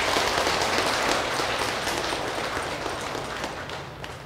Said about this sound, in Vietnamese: Quý vị có cho một tràng pháo tay thiệt lớn.